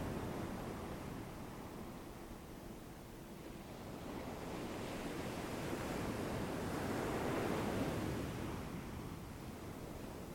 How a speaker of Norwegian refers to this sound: Bli bølgen som skyller inn og ut. Bli tatt av havet og la deg skylle opp på stranden.